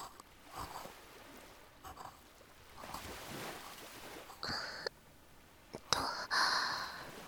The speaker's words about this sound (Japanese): 波の音とかもこの方がしっかり聞こえてるんじゃない？ザーって感じで、なんか耳障りがいいのだよね。